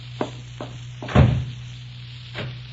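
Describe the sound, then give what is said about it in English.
A few light clicks lead into a single heavy thud as a door bangs shut, then a softer knock follows, all over a faint steady hum with no talking. “Oh, excuse me for banging the door.”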